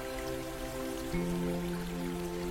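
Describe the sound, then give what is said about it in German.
A brook babbles over pebbles in pure, clear water in a steady, even wash of trickling water, heard beneath a sustained low musical drone that steps down in pitch about halfway through. “Der Bach folgt fröhlich plätschernd seinem Bett.”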